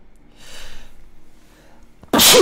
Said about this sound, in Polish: Ojej! Poranne kichanie jest dobre.